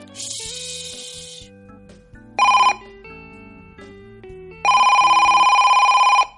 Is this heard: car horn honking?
no